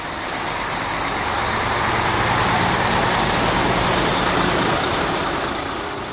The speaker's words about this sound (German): Das Fleisch von 20.000 Schweinen am Tag abzutransportieren und die Tiere her, eine gewaltige Logistik ist dafür notwendig. Pausenlos rollen Lastwagen mit Schweinen auf das Gelände.